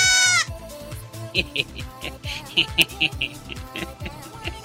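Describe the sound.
A person's voice lets out a short, shrill screaming bleat, imitating a little goat, loud at the very start, followed by steady talking.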